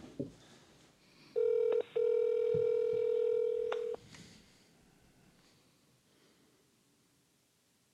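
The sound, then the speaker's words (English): A loud, steady electronic ringback tone from an outgoing phone call sounds once for a few seconds with a brief hiccup early on, then cuts off, leaving quiet background noise. “The phone's ringing.”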